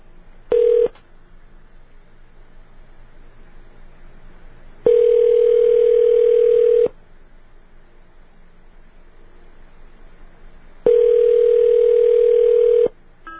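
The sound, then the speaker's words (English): A pulsating telephone dial tone, heard before dialing 9 to place a call to Seattle, sounds in clear, steady bursts: one brief beep, then two long two-second tones separated by gaps of quiet line hiss. No one speaks. “Let me get through this pulsating dial tone.”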